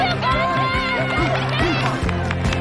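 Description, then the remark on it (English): A crowd cheers and shouts steadily as runners race past along a heavily wooded path, many voices overlapping in a loud, continuous roar with rising and falling calls throughout. “The crowd cheers on the runners as they race by.”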